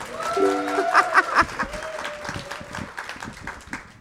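A crowd claps steadily for about four seconds, with a few high whoops and cheers rising above the applause early on before it settles into even clapping.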